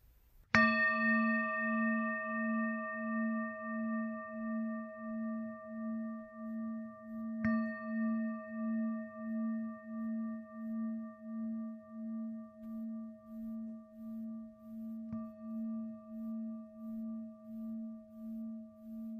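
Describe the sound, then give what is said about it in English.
A meditation bell is struck three times, evenly spaced, each strike ringing into a long, shimmering tone with a steady low hum that pulses and wavers as it slowly fades. No one speaks. “could you ring the bell for us?”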